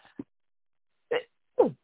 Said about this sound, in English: Okay. Bless you.